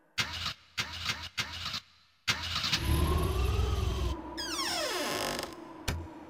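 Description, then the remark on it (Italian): A car engine cranks in several short, loud bursts, then turns over with a sustained strained whir before winding down and sputtering out, followed by one last brief crank. “Anche oggi non parto, c'è poco da fare. Donne e motori, so gioie e dolori.”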